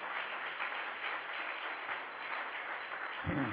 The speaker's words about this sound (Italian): Diamo un applauso al Signore. Alleluia.